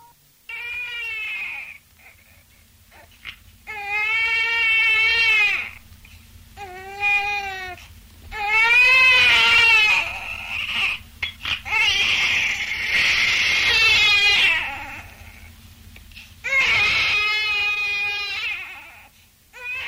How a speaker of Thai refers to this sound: บัดดลนั้นเองทารกก็พ้นจากครรภ์มารดาส่งเสียงร้องดังกว่าปกติ